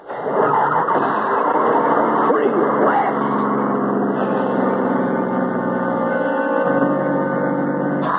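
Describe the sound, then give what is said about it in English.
A car engine kicks in quickly and then keeps running at a steady, loud drone, its rumbling tone shifting slightly near the end as the car drives on. “There's the road. And Charlie's car. Please start. Please.”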